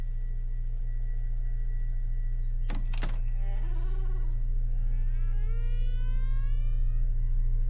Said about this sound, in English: The bedroom door opens wide, he shifts head, eyelids twitch.